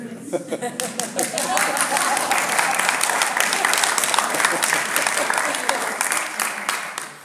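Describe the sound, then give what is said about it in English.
Sustained applause from a sizable audience, dense and steady for several seconds, with many hands clapping at once and a few isolated claps at the very start before it swells. “It's always good to applaud for yourself.”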